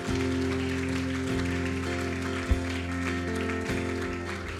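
Congregation applause for God at a church service, a steady dense crackle of many clapping hands that lasts the whole stretch, mixed with sustained low keyboard chords that change every second or so.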